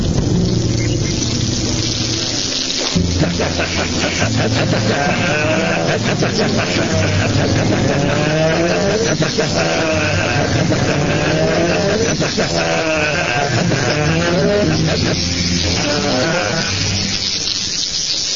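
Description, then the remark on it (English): A Harley-Davidson motorcycle engine idles loudly, its exhaust giving off a deep, uneven, throbbing rumble that keeps pulsing steadily for the whole stretch with no voices over it. “It's like the Harley-Davidson decision to, didn't they trademark the exhaust noise from the somewhat ugly mufflers?”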